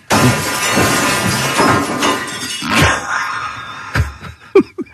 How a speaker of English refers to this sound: But this morning, up pops a picture, and it is the refrigerator shelf shattered in a million pieces on the kitchen floor.